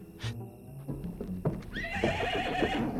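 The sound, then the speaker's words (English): A big black horse whinnies loudly, its shrill, wavering neigh rising over a few sharp hoof clops on hard ground, with no voices present. “The figure is a big, tall man on a big black horse.”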